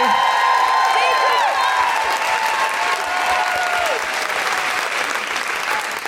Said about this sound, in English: Can I have a really huge round of applause for the amazing Miranda Kane? Thank you.